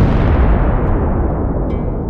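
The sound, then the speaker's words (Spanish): A massive atomic bomb blast, an explosion of 20,000 tons of TNT, roars as a deep, sustained rumble, loud and heavy in the low end, its hiss slowly fading while the thunderous boom continues, with no voices. “Se trataba de una explosión de 20.000 toneladas de TNT, 4 veces más de lo que Hans Witt había calculado.”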